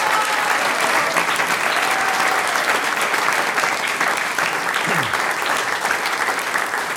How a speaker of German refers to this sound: Noch einmal einen Applaus